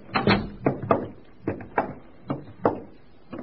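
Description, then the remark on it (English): A door being closed, heard as a run of sharp wooden clunks and clicks, unevenly spaced over a few seconds, moderately loud, with no voices. “Do come in and close the door.”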